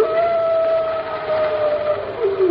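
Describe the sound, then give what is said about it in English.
A long, mournful wolf howl holds one steady tone with faint overtones, then slides downward at the end, rising over a constant rushing, windy hiss. “That isn't the wind, Pat. Those are wolves.”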